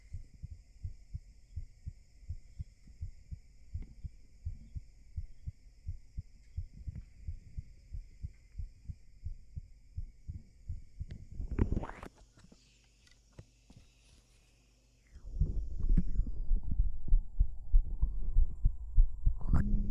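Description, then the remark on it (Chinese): A human heartbeat thumps steadily and quickly, muffled, for several seconds; after a brief rustling break, a louder, denser throbbing pulse returns. No one speaks. “来，见我，来听听我的心跳吧。”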